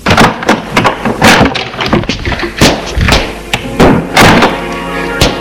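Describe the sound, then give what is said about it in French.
A bedroom door is handled and opened as a grandfather who has got out of bed leaves his room: a series of wooden thunks, clicks and knocks at an irregular pace, followed by shuffling movement. “comme le grand-père dort mal, ça l'a réveillé, il s'est levé. Il sort de sa chambre.”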